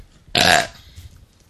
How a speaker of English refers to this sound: And he belched a lot as well.